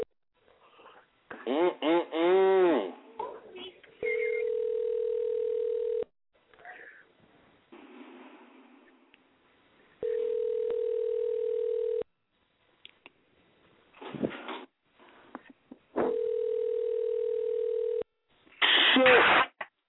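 A phone call being placed that goes unanswered: a telephone tone sounds in three steady, even-pitched bursts of about two seconds each, spaced evenly apart, with short bursts of other noises and voice-like sounds in the gaps between them.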